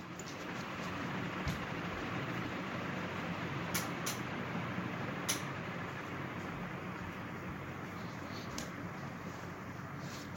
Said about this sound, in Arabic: اي بس بعضكم دا يقولون زين، يعني هاي المروحة هم صوتها عالي شوية